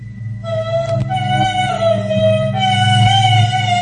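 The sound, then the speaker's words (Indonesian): An eerie, sustained human humming drones on from behind a closed toilet stall door, its pitch slowly wavering, steady and fairly loud throughout, with no one speaking over it. “Suara senandungnya itu berasal dari balik pintu toilet itu.”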